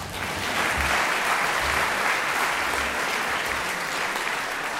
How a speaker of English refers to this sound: Now you can clap.